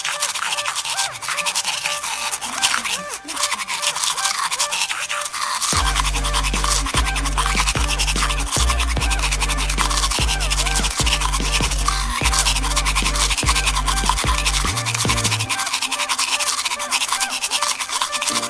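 Continuous scratchy toothbrush brushing with no one talking, joined midway by a steady low buzzing hum that runs for about ten seconds before cutting out while the scrubbing continues.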